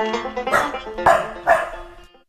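Dogs bark three times in quick, evenly spaced loud bursts, over a steady humming musical background that fades out at the end.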